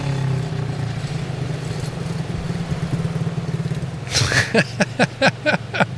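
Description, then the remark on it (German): The engine of a motorcycle that has just arrived rumbles at a low idle for several seconds, then gives way to a quick run of sharp metallic clicks and clacks. “Man hört jetzt noch die letzten Motorengeräusche von einem Motorrad, was hier gerade angekommen ist.”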